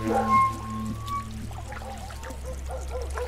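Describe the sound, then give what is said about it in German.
Water pours and trickles steadily in a brook, a continuous gurgling flow like a stream running over stones, with a slightly hollow, resonant tone early on. Someone kneels in the brook and water runs into their rubber boots. “Wasser läuft in seine Gummistiefel.”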